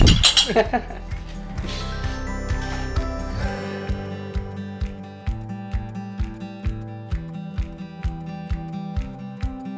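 Pint glasses clink together in a toast, first in a brief cluster of bright chimes, then a steady run of sharp, ringing taps against a low background hum.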